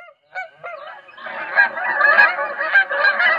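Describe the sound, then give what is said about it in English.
A few separate goose honks open, then a whole flock breaks into a dense, overlapping chorus of loud, nasal honking that continues steadily, with no talking. “A collision with a flock of geese is being blamed for the engine failure of the U.S. Airways Flight 1549 on January 15, 2009.”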